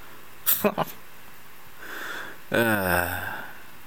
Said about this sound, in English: I got the sniffles, sorry.